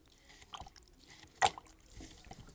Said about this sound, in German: Aber das Wasser im Kessel kocht bereits und der Wolf taucht den Schöpflöffel hinein.